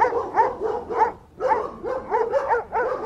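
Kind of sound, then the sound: animal, dogs barking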